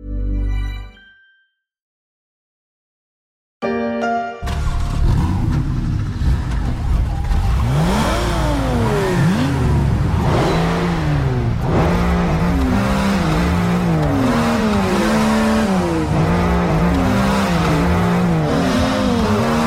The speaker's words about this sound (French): Joyeux anniversaire à la mode des moteurs, un grand classique revisité pour l'anniversaire de la Porsche 911. Les fans auront peut-être reconnu la signature du moteur de cette voiture mythique créée en 1963.